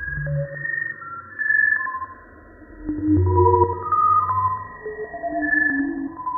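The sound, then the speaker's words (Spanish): Sonified X-ray data of the Eagle Nebula (M16), collected by the Chandra observatory: shimmering synthetic tones and soft sustained notes drift and overlap, with low rumbling swells and scattered brief pings, no voices present. “El observatorio Chandra ha recogido el sonido producido por la nebulosa M16, también llamada nebulosa del águila.”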